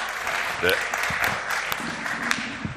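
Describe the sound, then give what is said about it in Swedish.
Audience applause for a team being thanked: a steady wash of many hands clapping at once, dense and fairly loud, with a brief vocal sound rising through it early on. “Ge dem också en applåd.”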